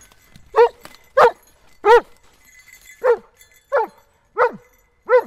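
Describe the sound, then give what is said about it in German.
A search dog barks seven times in a steady, insistent series to indicate a found person hidden on the wet forest floor after a morning of rain. Each bark is sharp, with brief pauses between them and no talking. “nach der richtigen Fährte schnüffeln und den gefundenen Menschen mit Bellen anzeigen”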